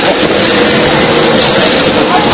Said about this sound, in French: C'est infernal les bagnoles.